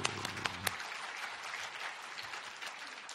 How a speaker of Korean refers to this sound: 우리 주님께 감사의 박수, 감사의 박수.